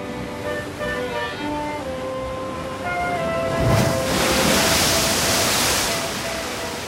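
Stormy sea waves roar steadily, swelling into a loud crashing surge midway that washes on for several seconds, with faint sustained musical tones underneath and no voices.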